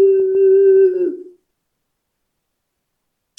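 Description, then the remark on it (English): A person imitates the howl of their springer spaniel Rosie, who never barked but howled when her owner walked in the door, with one steady, sustained vocal tone lasting just over a second, then it trails off into silence before a brief noise at the very end. “She never barked, but when I walked in the door, she'd howl.”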